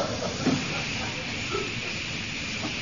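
A steam train hisses steadily at a platform, a continuous, fairly loud rush of steam with a low rumble underneath and no clear breaks for nearly three seconds.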